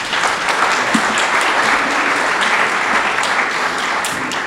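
A short burst of audience applause: many hands clapping in a dense, steady crackle at an even, fairly loud level for a few seconds, with no voices over it.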